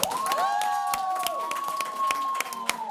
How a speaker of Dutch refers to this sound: Dank jullie wel. Nog één applaus voor ….